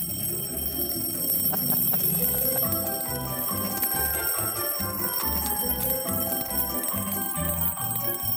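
An alarm clock rings loudly and continuously in a steady, rapid pulsing pattern for several seconds, with a bright, tinny tone and no voices over it.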